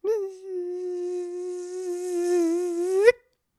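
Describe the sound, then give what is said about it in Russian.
A steady, high, nasal buzzing whine, like a mosquito, held for about three seconds and then cut off sharply, most likely a human voice imitating the insect. “Да, часто в Ленинградской области и вообще в России очень много комаров.”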